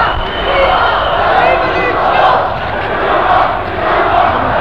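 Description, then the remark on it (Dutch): A crowd of people who have left a building shouts together as they march arm in arm into the Roemer-Visserstraat during a street demonstration, a continuous, loud wash of chanting voices rising and falling slightly over several seconds. “Ja, de mensen uit het pand zijn in een demo en nou, je kan horen wat ze roepen.”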